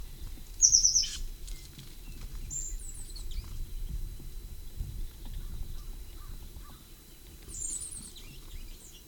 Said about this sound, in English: 9:58, one bird had flown down to a cavity in an oak. Second flew down with the slightly melodic notes. I believe the one that gave that call is the one that flew down second.